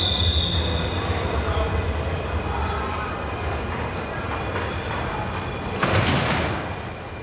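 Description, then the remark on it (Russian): A continuous low rumble of a train standing at a crowded railway station, with a thin, high-pitched wheel squeal ringing out early on, then a sharper metallic clatter near the end. “Сколько людей сегодня на вокзале? Не проберешься просто. О, смотри, вон и наш поезд стоит.”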